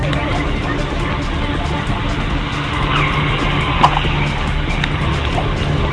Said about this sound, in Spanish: Los carros imprudentes están que pasan. Siguen pasando. Se para todavía la combi a llevar pasajeros en pleno huaico.